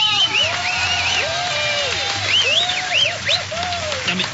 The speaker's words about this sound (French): Mais qu'est-ce qu'ils ont à applaudir dès qu'on fait un truc là? Vous allez nous laisser tranquille, oui, bande de fouilles, merde!